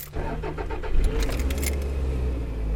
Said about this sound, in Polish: I drodzy Państwo, czy Wy też tak macie, że lubicie dźwięk swojego silnika? Ja pokażę, uwielbiam, po prostu kocham, jest najlepszy na świecie.